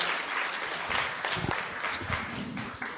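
A crowd applauds steadily, dense clapping from many hands at moderate volume, with a few sharper claps standing out, as the audience welcomes a police sergeant coming up to speak.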